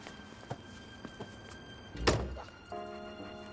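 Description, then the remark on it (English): A car door slams shut with one heavy thunk as a man gets out of an open-top car parked outside the Foundry warehouse, preceded by a few faint clicks and followed by a low, steady tonal hum. “Dooley gets out of his car.”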